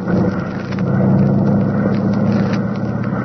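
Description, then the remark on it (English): A nuclear copter takes off, rising straight up: a loud, steady engine roar with a low, throbbing drone that swells slightly after the first second and then holds constant, with no voices. “We're ready for takeoff.”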